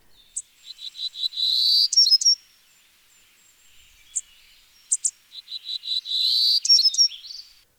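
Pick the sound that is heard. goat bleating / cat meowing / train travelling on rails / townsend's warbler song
townsend's warbler song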